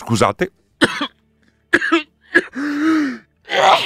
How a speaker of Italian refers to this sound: Scusate, è bello della diretta. Colpo di tosse, improvvido.